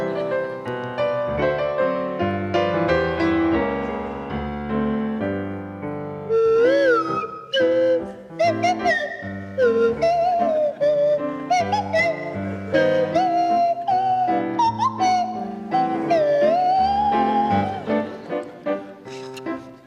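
Joe Brand on a buzzy kazoo and Tony Hawks on a sliding swanee whistle play a tune together over steady accompaniment, the whistle swooping up and down between notes, loud, with no talking.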